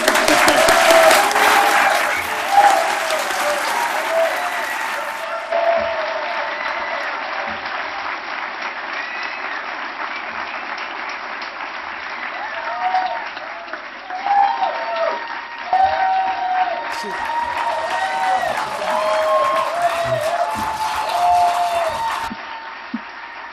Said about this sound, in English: Thank you very much. We do make an exception and applaud for students here.